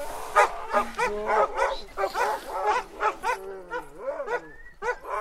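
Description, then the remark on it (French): A pack of Nordic-breed sled dogs of Au cœur des loups, which offers sled dog rides, bark and yip excitedly in a dense, overlapping chorus, with a few rising whines and howl-like cries mixed in, continuous throughout. “Si vous êtes intéressé par une balade en chien de traîneau, vous pouvez contacter Au cœur des loups”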